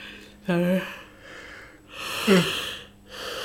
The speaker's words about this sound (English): there are ways you can actually just hack your body into relaxing, and one of them is yawning.